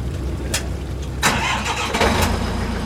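A high-pressure scallop washer imported from Japan cranks up on a boat docked on Portland's waterfront in Casco Bay, Maine, washing live scallops. Its motor settles into a steady low rumble broken by a few sharp, hissing bursts of spray. No one speaks.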